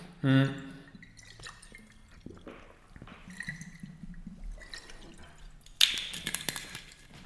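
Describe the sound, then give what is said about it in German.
Someone takes a sip of water on a very warm day, with soft wet slurping and swallowing sounds, faint liquid movement and a brief sharper clink or clatter near the end. “Deswegen, ich nehme jetzt mal direkt kurz einen Schluck Wasser”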